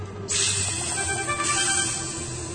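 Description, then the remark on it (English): A loud snake hiss, the snake tail of the Chimera spitting poison, bursts in after a brief pause, surges again midway like a spit, and keeps sputtering steadily to the end, with no one speaking. “It spat at Bellerophon, trying to sting him with poison.”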